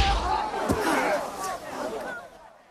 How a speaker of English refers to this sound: Philo punches Wilson's stomach. Wilson swings and misses. Philo's next round of punches knock Wilson to the ground.